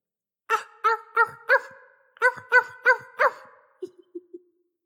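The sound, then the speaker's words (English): A person imitates a seal's barking, with two quick sets of four loud, honking barks followed by four softer, shorter ones trailing off, with no other talk. “Bark like a seal.”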